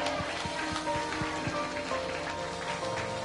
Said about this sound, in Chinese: 我们谢谢耶稣，我们给耶稣一个掌声，我们感谢耶稣，阿们，哈利路亚。